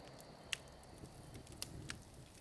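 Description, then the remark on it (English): A few sharp, sparse pops and snaps crackle over a low, steady hiss: a dying fire left stoked in the kitchens of a small castle in the Scottish town of Lanark on a dark night in May 1297. The sounds are quiet, with long gaps between the pops. “In the kitchens, all that can be heard is the dying crackle of the fire left stoked when the cooks retired to bed, and the scratches of mice scuttling around the reed-strewn stone floors.”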